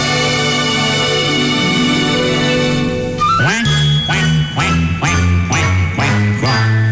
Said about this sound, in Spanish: Do mi re do re mi, cuac, cuac, cuac. Allá en la laguna cantaban los patos.